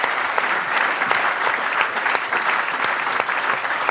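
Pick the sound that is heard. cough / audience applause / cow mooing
audience applause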